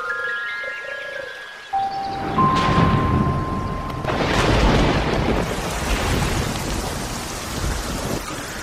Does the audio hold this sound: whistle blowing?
no